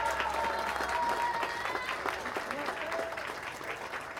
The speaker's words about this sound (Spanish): También están los compañeros del Comité Pedregales Unidos de Coyoacán de la CONUR. Un aplauso también.